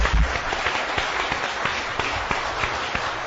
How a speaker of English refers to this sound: Let's give a round of applause to our speaker.